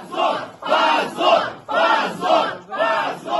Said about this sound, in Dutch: Ja, je hoort hier een groep demonstranten in een rechtbankgebouw in Moskou en ze roepen pazor, wat schande betekent. Dit doen ze na de uitspraak in de rechtszaak tegen Sasha Skocilenko.